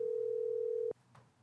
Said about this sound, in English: Your smart meter is calling us. Yeah, I don't know whose phone that is. It's not mine, I don't think.